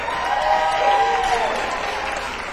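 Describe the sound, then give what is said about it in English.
A crowd at a live music show applauds steadily for a couple of seconds, a dense wash of clapping with a few cheers or whoops rising above it, loud throughout. “Give it up for … one more time.”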